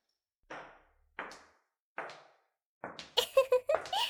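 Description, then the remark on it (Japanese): Three dull wooden thuds at a steady pace, followed by a quick run of sharper metallic clicks and clanks as a door is shut and its lock is turned. “ドアを閉めてっと。 ちゃんと鍵も閉めないとね。”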